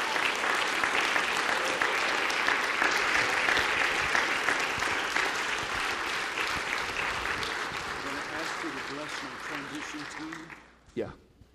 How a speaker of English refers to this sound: Glory to God. Give the Lord a big clap.